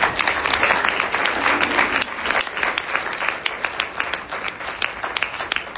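A crowd applauds with dense, steady clapping that holds loud through the first couple of seconds, then thins out into sparser, distinct claps as it tapers off.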